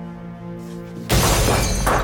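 A sudden loud crash of a mirror being smashed bursts in after a soft sustained tone, followed by a bright, scattering spray of glass shards that continues to the end, forceful.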